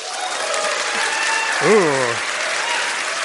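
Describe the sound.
An audience at a debate applauds steadily for a few seconds as a speaker is introduced to make the case for Sanders, a dense even wash of clapping, while one voice briefly lets out a rising-then-falling vocal cry partway through.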